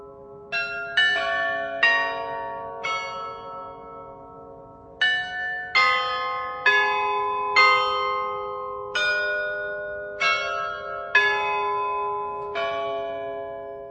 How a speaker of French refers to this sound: La Lorette de Prague ne serait pas ce qu'elle est sans son carillon unique créé à la fin du XVIIe siècle.